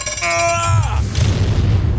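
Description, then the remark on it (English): A heavy door of exorbitant size creaks with a drawn-out, groaning whine that bends downward, then slams shut behind the speakers with a deep, booming thud that rumbles on for a moment. “And let's get this exorbitant size door to slam shut behind us.”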